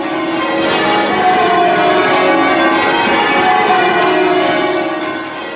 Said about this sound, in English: I saw the bell ringers stand in a circle, facing each other, and then they rang out this glorious noise right across the city.